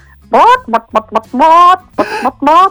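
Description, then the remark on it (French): A person imitates a clucking hen with a series of loud vocal clucks and squawks in a bouncy, uneven rhythm, with no other talking. “J'ai évité de faire toute la chronique en poule.”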